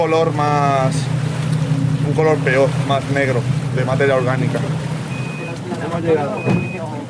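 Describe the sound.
A boat engine drones steadily beneath people talking, then eases off and dies down as the boat slows to a stop; two short electronic beeps sound near the end.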